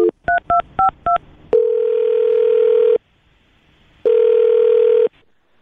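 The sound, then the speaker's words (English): A quick run of about five touch-tone keypad beeps as a phone number is dialed, followed by two long, steady ringing tones separated by a short silence. Clear, no voices. “I'm going to dial the phone number.”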